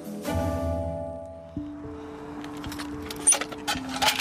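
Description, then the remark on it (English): A donation tin being opened, followed by scattered metallic clinks and rattles of coins, over a steady low droning hum; no one speaks. The tin is half full of coins and notes. “And this is the heartwarming moment that when you open the donation tin and it's half full of not only coins but notes as well.”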